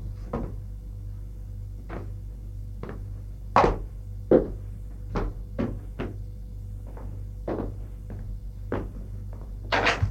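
A drawer of a chest of drawers opens and shuts again and again, giving a string of irregular wooden thuds and knocks, a couple louder than the rest, over a steady low hum, with no talking.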